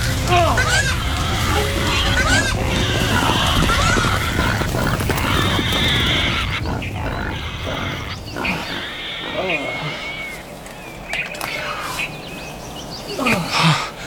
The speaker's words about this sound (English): What was that? Wild boar.